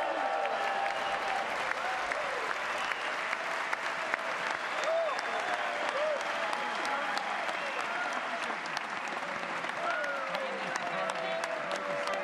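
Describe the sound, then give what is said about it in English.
Sustained audience applause at a joint session of Congress as a guest speaker is welcomed, a dense, steady wash of many hands clapping at an even loudness, with faint voices and a few cheers rising above it. “This clapping thing that you guys do, it's very pomp and circumstance.”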